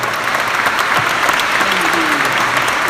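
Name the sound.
audience applause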